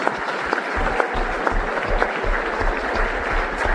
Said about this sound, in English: A round of applause